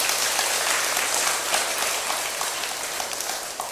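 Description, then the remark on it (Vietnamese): A crowd applauds steadily, many hands clapping in a dense, hissing wash that holds loud and even for several seconds before easing slightly at the end. “Nếu tất cả quan hỷ với đề nghị quán niệm bốn điểm tựa nêu trên đó, thì hãy cho một tràng vỗ tay thật lớn nào.”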